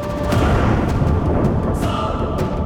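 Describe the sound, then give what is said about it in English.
A deep, continuous rumble of distant thunder from a gathering thunderstorm rolls steadily throughout, heavy in the low end, with a few faint crackling edges and no voices. “In the distance, he could hear the faint rumble of thunder.”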